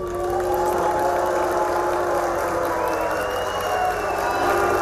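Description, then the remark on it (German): A loud crowd at the Latin American Climate Week in Salvador da Bahia, Brazil, whistles and boos Brazil's environment minister Ricardo Salles continuously, shrill whistle tones rising above a thick, steady roar of jeering voices that never lets up. “Pfiffe und Buhrufe für Brasiliens Umweltminister.”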